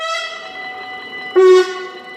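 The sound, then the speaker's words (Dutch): A train horn at a level crossing sounds in two long, loud blasts with rich harmonic tones, the second starting after a brief dip, with no voices. “Dus de treinen die toeteren, stoppen en dan gaan ze pas door het spoor over.”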